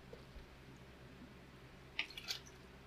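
Near-silent room tone, then a couple of small wet sips or swallows near the end, quiet and brief, as someone takes a drink of water.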